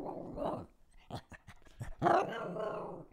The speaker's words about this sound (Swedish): Och hunden. Hunden Bella. Vi spelar in. En hund som spelar in podcast. Nu har jag sett allt.